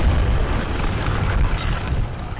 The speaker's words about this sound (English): What was that? And I'll tell you what it was. It was the sound of the Titanic slamming into a huge iceberg.